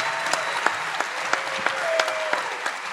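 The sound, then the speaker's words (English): Steady audience applause for three comedy contest contestants fills the whole stretch, a dense wash of clapping with a few sharper individual claps popping out at regular intervals. “This was just give them a round of applause just for trying it out.”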